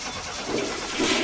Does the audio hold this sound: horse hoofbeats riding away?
no